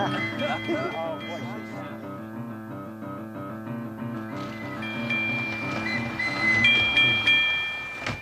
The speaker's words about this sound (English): Can you hear the trolley? Can you? Oh, I better hear the trolley real close. Give a good loud ding and whistle for Queen Sarah, trolley.